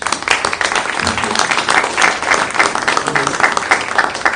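A room full of people applauds steadily, a dense, continuous patter of many hands clapping at once, fairly close and loud, with a few scattered voices faintly mixed in.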